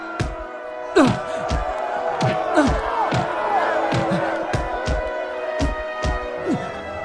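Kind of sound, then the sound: crowd, crowd shouting loudly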